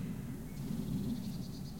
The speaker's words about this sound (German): Da ist die erste Meise und sie ist spät dran, wie immer. Sie schimpft auch erstmal, muss sich schütteln, sich erstmal in Stimmung bringen.